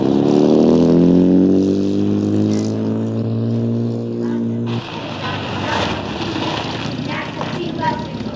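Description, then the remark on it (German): A car's engine hums loudly as it pulls up in front of a school, its pitch sinking as the vehicle slows, then cuts off abruptly about halfway through, leaving a busy outdoor background with faint murmuring behind it. “Kurze Zeit später fuhr sie vor der Schule vor.”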